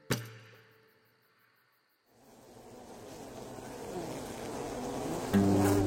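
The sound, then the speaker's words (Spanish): After a brief knock and a near-silent pause, a dense swarm of bees starts buzzing, a steady droning hum that grows gradually louder until the end. “¿Has notado que desde que talaron la selva para construir la granja, las abejas están más débiles?”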